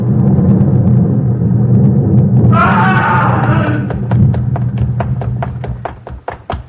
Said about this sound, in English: It was then, as the first flash of summer lightning cast the city in livid silhouette against the sky, and thunder spoke in the distance.